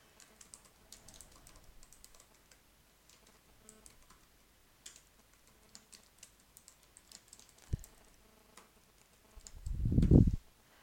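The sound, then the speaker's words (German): Fairly quiet, steady typing on a computer keyboard while entering data, with irregular light clicks, one sharper tap near the end, then a brief louder rustling thump to close. No one speaks. “Da ich selbst ein MSDN Tech Advisor bin, kann ich meine eigenen Data eingeben.”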